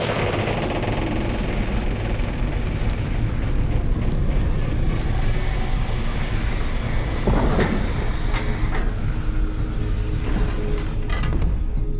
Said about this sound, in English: Henry instinctively moved backwards when he heard the ear-piercing shriek of ancient gears turning for the first time in millennia. The slabs were opening.